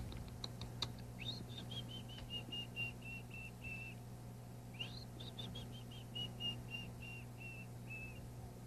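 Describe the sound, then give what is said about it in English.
A person whistles to a canary in two short phrases, each opening with a quick upward swoop and then a run of evenly spaced, steady high notes, over a quiet background hum with a few faint clicks. “I like to whistle to canaries sometimes. Sometimes when you whistle at it, it starts to sing.”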